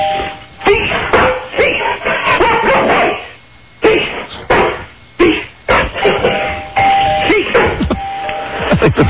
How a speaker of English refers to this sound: All right, Copper, ready? One, two, three, go! Doorbell.